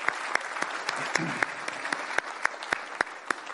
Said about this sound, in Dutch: Ik vind dat degene die dit allemaal hebben gemaakt... en gisterenmiddag is die hard gewerkt... ik vind dat ze wel even een applaus hebben verdiend.